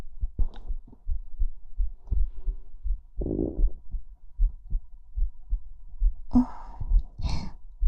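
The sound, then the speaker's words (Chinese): A fast, steady heartbeat thumps in muffled low pulses, as if heard through a chest, with a couple of brief breathy rustles breaking in midway and near the end. “心跳也变得快起来了。”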